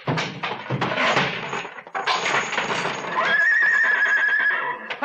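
A horse lets out a loud, drawn-out whinny that rises into a high, wavering squeal near the end, with some scuffling and shuffling noise in the background and no speech.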